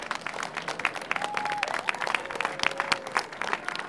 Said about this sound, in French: Alors on va commencer par tous les bénévoles, parce que là il faut vraiment les applaudir. Il y en a plus de 200 qui ont mis tout ça en place.